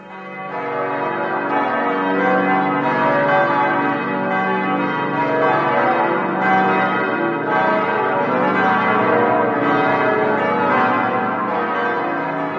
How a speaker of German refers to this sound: Ich finde es immer wieder schön, wenn ich diese Glocken höre. Und habt ihr eine Idee, welche es sind? Das waren die Glocken von St. Marien.